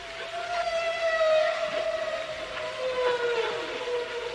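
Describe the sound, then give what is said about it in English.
Whale song recorded on National Geographic's 1979 flexi-disc: one long, sustained moaning tone with a reedy, harmonic-rich quality, its pitch sagging slowly downward, holding steady in loudness across the whole stretch with no voices. “National Geographic's flexi-disc of whale songs had an initial production run of 11 million in 1979.”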